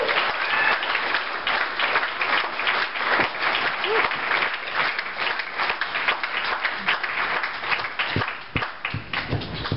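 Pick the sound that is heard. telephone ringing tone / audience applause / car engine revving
audience applause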